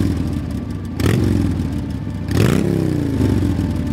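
A motorcycle engine idles with a low rumble, then revs up twice, each throttle blip rising sharply in pitch and loudness before settling back into a steady growl. Fairly loud.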